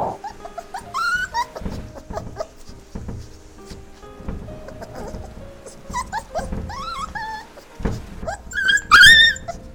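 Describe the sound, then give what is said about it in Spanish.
A dog whimpers and growls, high whining cries rising and falling between low rumbling growls, with several louder yelps near the end. No one speaks. “¡Perro maldito, te cogiste mi zapato!”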